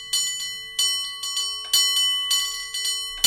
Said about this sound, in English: Bicycle bell ringing to go with our cable car bell ringing.